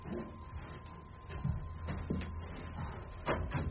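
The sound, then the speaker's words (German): A door is opened: a few soft clunks and a brief scraping rattle over a low, steady rumble, with no one talking. “Mach die Tür auf und geh da rein.”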